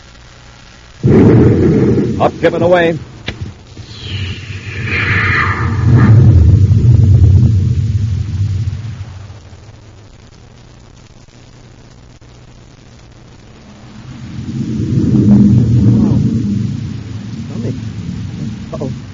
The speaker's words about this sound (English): Stand by for blastoff.